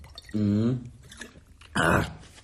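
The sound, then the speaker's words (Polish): Someone drinks straight from a bottle: a throaty, voiced gulp, a brief pause with faint liquid noises, then a second louder slurping swallow. “Przepraszam się, że tak z butelki.”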